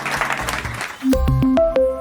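An audience at a tech industry talk applauds to welcome two speakers on stage, a dense, steady wash of clapping for about a second, then gives way to bright, sustained musical tones stepping between pitches.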